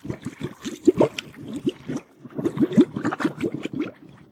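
Window cleaning fluid glugs and gurgles as it is poured into a car under its hood, in two steady bursts of bubbly, rising-pitched sloshing separated by a brief pause, with no voices.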